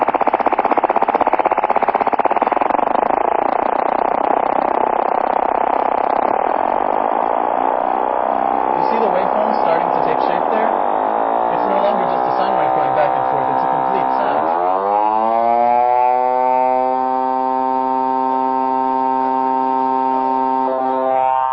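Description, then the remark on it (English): A loud, continuous FM synthesis tone, a simple sine wave whose pitch wobble keeps speeding up until it fuses into a steady, bright, buzzy timbre rich in overtones and sidebands. “That is FM in its most basic form.”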